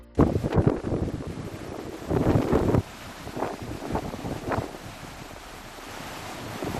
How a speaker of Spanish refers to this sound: Así sonaba hoy la playa de Riazor. Hay temporal en el mar, la alerta roja que ya ha pasado a naranja por viento y olas.